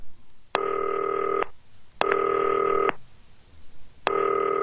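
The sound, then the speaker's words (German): A telephone ringing tone, from a green telephone calling former Werder Bremen player Nils Petersen, sounds three times, each a steady, buzzy electronic burst lasting about a second, separated by short even gaps, with no one talking. “Klingelt.”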